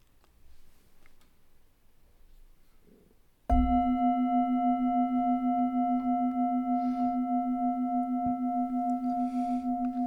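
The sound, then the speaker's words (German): After a few seconds of near silence, a meditation gong is struck once, its deep, rich tone and shimmering overtones ringing on loudly and steadily to the end, with no one speaking. “Wenn du magst, kannst du auch noch eine kurze Übung nach dem Gong hören.”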